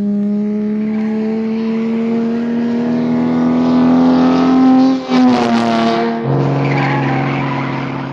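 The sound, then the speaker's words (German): A car engine drones steadily, its pitch climbing slowly, then a brief screech of tires around a shift before the motor settles back into a lower, even hum, as a car is driven along a coastal road to Bodega Bay. “Sie setzte sich in ihren Wagen und fuhr über die Küstenstraße nach Bodega Bay.”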